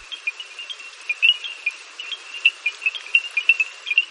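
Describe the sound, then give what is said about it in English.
In the evening in Masai Mara National Reserve, Kenya, a dense chorus of small frogs gives rapid, overlapping tonal clicks with a wooden ring like African stone xylophones, set against a steady hiss of pouring rain during a storm, with no voices. “In Masai Mara National Reserve, small frogs create a sound similar to African stone xylophones.”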